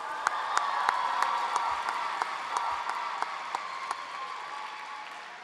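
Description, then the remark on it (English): An audience applauds a poet after the judges show their scores at a poetry contest: many hands clapping in a dense, even wash with a few sharper individual claps standing out, holding at a moderate level for several seconds before easing slightly. “Applaud the poet.”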